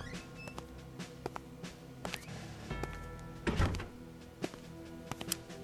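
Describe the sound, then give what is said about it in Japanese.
A door slides open with a mechanical whoosh and a rumbling swell midway, surrounded by scattered clicks and thunks against a low hum, with no voices. “え、反対側にドアがあるの？”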